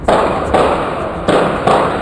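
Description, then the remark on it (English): Four sharp gunshots crack out at irregular intervals, each a loud, abrupt blast with a short ringing decay, heard alone with no talking; captured by police gunshot detection technology at a luxury high-rise apartment balcony outside Fort Lauderdale. “Those are some gunshots if I've ever heard them.”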